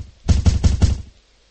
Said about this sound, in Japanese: なおも不気味なノックの音は止まなかった。いつまでも続くような感じの嫌なノックの音。ノイローゼにでもなりそうだ。